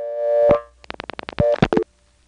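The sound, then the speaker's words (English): A steady payphone dial tone in Siler City drops out as a 6 is dialed, a quick run of rotary dial clicks, followed by a short renewed burst of dial tone from the NX1 switch in the same building and some clattering line noise before silence. “Did you notice that little burst of new dial tone?”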